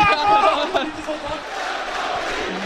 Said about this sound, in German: Und jetzt, das ist ja mal Wahnsinn. Jetzt jubeln sie alle. St. Pauli, hört euch das an.